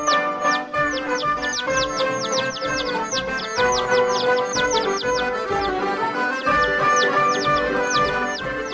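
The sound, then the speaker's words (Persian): Baby chicks peep steadily, a dense stream of high, downward-sliding chirps running the whole time over a busy, steady background murmur. “جوجه طلایی زبر و زرنگ، زرد و قشنگ، سرشو از تخم آورد بیرون و صدا زد چی چی چی چی چی گو.”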